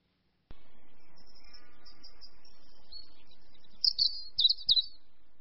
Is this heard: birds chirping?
yes